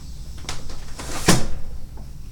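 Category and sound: household object, window being closed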